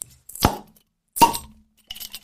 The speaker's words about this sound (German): mach kurz das Bier auf. Finde ich fair.